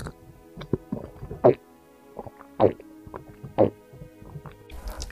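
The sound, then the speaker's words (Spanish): A person drinks water from a glass: a series of wet gulps and swallows, with three stronger ones spaced about a second apart, between smaller sips and mouth sounds over a low steady hum. “Bebe agua, el sonido de beber agua.”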